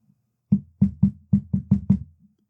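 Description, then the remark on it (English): Seven firm knocks rap against a wooden door in a quick, slightly uneven rhythm. The knocking is clear, with no voices. “Who could be at the door at this hour?”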